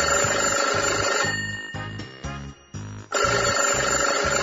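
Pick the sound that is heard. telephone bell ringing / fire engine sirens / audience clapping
telephone bell ringing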